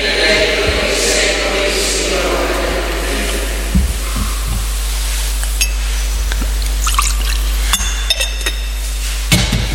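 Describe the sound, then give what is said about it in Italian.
A small trickle of water poured into wine in a metal chalice during a liturgy, with light clinks of the vessel, set against a steady background hum. Nobody speaks. “L'acqua unita al vino sia il segno dell'unione per la vita divina di colui che ha voluto assumere la nostra natura umana.”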